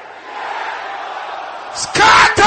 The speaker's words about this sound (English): All these people on the gallery, can I hear you shouting it loud? Your voice is not loud enough. Let me hear the brothers shouting this loud and loud.